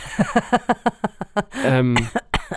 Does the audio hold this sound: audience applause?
no